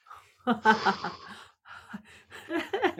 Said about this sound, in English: And the heavy breathing.